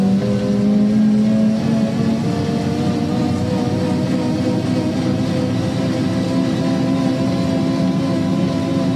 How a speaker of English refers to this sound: And you can hear that this is very much an original bus, complete with the gearbox and transmission wine. It's not a replica. It has real gears with real teeth, some of them still left there.